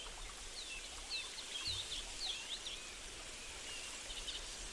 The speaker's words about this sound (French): Cet arbre est le repère de nombreux oiseaux qui piaillent joyeusement dans ses branches, se reposant sur ces dernières, y construisant des nids, çà et là.